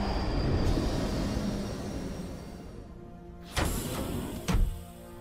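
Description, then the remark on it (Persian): A steady, rumbling ride on a fast train on rails with continuous low-frequency roar, followed by a couple of sharp clanking jolts near the end, fairly loud with no voices. “دارسون حداقل یه چیزو درست میگفت، این که این قطارا واقعا سریعن.”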